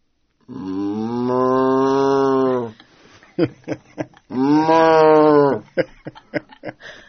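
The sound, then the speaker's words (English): A person who plays a cow imitates a cow with two long, drawn-out moos, each lasting a couple of seconds, loud, with short breathy vocal bursts between and after them. “The moves are very specific, so it's not just like I'm a mooing cow. It really has intention and thought behind each move.”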